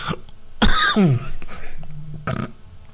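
loud cough

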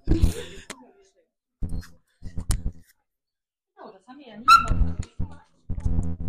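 dog whimpering

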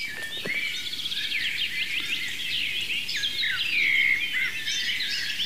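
eurasian blackbird song

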